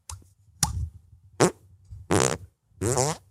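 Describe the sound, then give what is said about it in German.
Five hand-made fart noises in a row, loud, each a short buzzy squelch, the last ones longer and more drawn out, with no talking. “Also meine Superkraft ist, ich kann mit meinen Händen furzen.”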